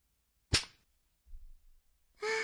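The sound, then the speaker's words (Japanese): A single sharp whip crack snaps out loudly, followed by a brief low rustle and then a soft burst of noise near the end. “とてもいい音。ムチが当たったら皮膚が裂けて、肉がそぎ落とされ、もう痛すぎてたまらないのよ。”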